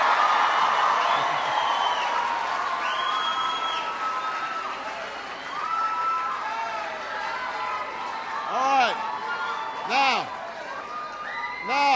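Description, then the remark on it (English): A large crowd cheers and claps continuously, with loud whoops and shrill whistles rising above the roar, swelling near the end. “Give yourselves a big round of applause.”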